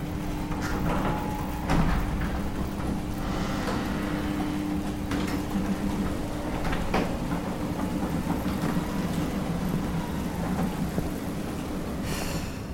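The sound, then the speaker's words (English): A heavy bay door grinds slowly open, a continuous low rumble with strained metallic groans and creaks running steadily throughout, loud, with no voices. “Carter handed her the antlock and walked to the bay door. The door slowly opened, strained and groaning.”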